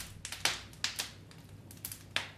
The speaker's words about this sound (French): Mais qu'écoutez-vous? Une symphonie de craquements. Seuls les bons pains font ces bruits-là.